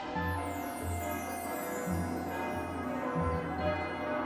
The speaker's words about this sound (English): There is the monumentous sound of giant bells ringing. This is the bell at the tower of Barnhart Swan's School of Magic, Fighting, and Dance, which is found in Kingstown, a few days' journey from Wintersmith.